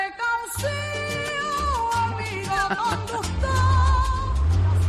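AI-generated sound of the inside of a car: melodic music plays loudly and steadily throughout, layered over a deep, rumbling low hum. No one speaks.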